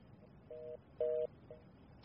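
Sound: telephone dialing tones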